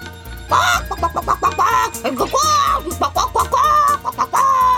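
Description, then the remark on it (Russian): A laying hen clucks loudly in a long string of quick, squawky bursts, with a steady musical backing underneath. “Вперед, моя несушка.”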